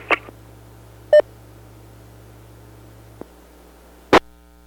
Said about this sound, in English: Yeah, I kind of heard Echo Link key up and give its ID on there. That's what we heard just a moment before.